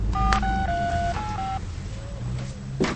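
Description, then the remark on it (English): A cordless phone's keypad is dialed, about five quick touch-tone beeps in a row. They ring out clearly over a low background hum, followed by a pause and a faint click. “picks up a cordless phone receiver.”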